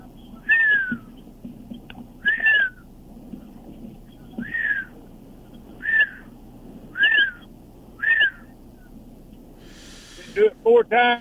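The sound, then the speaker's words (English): A person whistles a slow, repeated bird-like call in imitation of a mockingbird, six short swooping notes evenly spaced, followed by a brief burst of voices at the end. “Yeah, well, the trick with the mockingbird is if you wait when they're finished with that whistle, they'll do something else, and they'll chirp something else, and then again and again”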